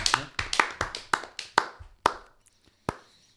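Hands clap about a dozen times in a quick, steady rhythm of sharp, crisp claps, then slow to a few scattered final claps and stop. No one speaks.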